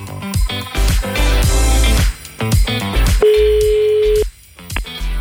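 Busy music gives way to a single steady telephone ringback tone lasting about a second, as a presenter calls a listener back, before the music returns.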